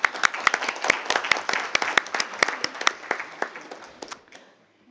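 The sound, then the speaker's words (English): A group at a meeting of the parties applauds Switzerland. Many overlapping claps form a steady, crackling patter for about four seconds before it quickly tapers off into quiet. No one speaks. “So maybe we should applaud Switzerland for this initiative.”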